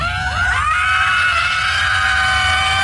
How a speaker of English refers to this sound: And you know, we've all heard of soccer moms or football moms or basketball or wrestling moms, but do they scream on command? They do in Boston.